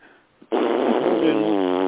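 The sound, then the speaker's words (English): After a brief quiet moment, a voice imitates loud nose blowing: one long, forceful, buzzing honk that starts abruptly and holds strong for over a second. “Do you make a lot of noise when you blow your nose?”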